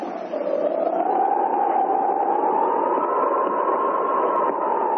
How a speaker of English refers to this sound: Listen! The whistle, he's calling us, calling for help.